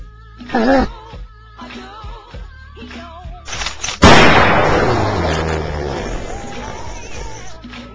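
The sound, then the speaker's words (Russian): A loud, sharp gunshot blast hits midway through and rings out in a long, fading echo, after a quieter stretch with a brief vocal-like sound near the start. “Давай, кабан, стреляй быстрее.”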